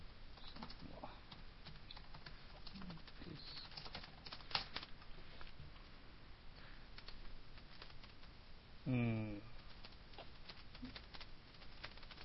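Quiet, irregular clicking of keys on a computer keyboard as someone types a query in katakana, a steady patter of taps with a brief louder swell near the end, with no voices.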